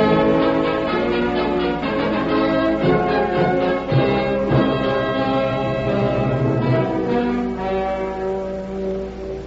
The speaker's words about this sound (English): Try the doorbell again